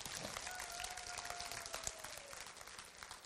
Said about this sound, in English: And to God, come on, if you're going to clap, don't mess around.